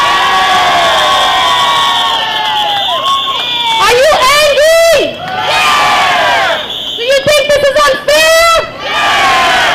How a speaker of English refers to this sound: Hello everybody, public housing residents, I want to hear you scream.